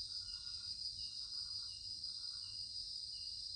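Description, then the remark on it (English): Jungle cicadas buzz in a dense, unbroken high-pitched drone that holds steady throughout, with faint intermittent chirping calls and a low rumble in the background. “The cicadas are filling the air with song.”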